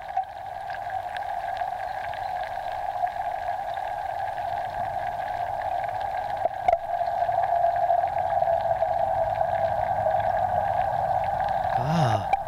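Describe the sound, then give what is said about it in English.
Underwater pond soundscape from a hydrophone on a self-contained, solar-powered live stream that runs during daylight hours: a steady mid-pitched hum over constant fizzing hiss, with scattered faint ticks, one sharp click partway through, and a quick rising chirp near the end. “So essentially, during all the daylight hours of every day, 365 days a year, if you wanted to see here, that is, what it sounds like in these hidden areas under the water, then you could tune in to that stream.”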